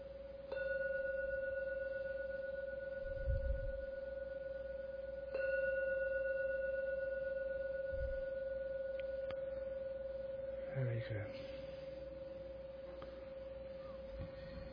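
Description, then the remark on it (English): A gong is struck three times to end a meditation, about five seconds apart, each strike blooming into a steady, ringing mid-pitched tone that sustains and overlaps, with faint rustling and low thumps underneath. “Gong 3 times to end the meditation.”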